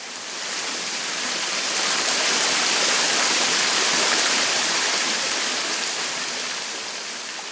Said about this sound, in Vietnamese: Nơi mang địa danh là The Dells nằm ở cực tây hòn đảo. The Dells là một cánh rừng nhiệt đới rất tĩnh mịch với nhiều cây cao và một thác nước đổ từ một dốc đá trông giống như một dòng nham thạch bị đông cứng xuống một con lạch ở phía dưới.